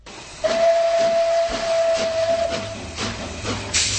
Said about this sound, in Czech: Osobní vláček projel Karlštejnem, zahoukal a zamířil do krajiny skal a údolí řeky Berounky.